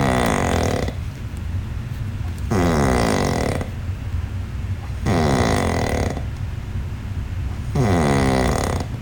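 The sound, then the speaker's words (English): A man with sleep apnea snores loudly: four harsh, rattling snores at a steady rhythm about two seconds apart, with a low rumbling breath filling the gaps between them. “He starts off after the gasp of breath, it goes back to a normal quick snore, and then you're going to hear the snoring.”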